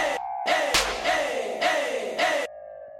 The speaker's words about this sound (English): Crowd cheering out there, it's a lot of fun, and you get really pumped up, and it's a lot of fun to be out there.